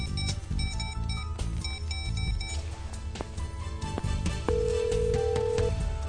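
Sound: telephone call ringing through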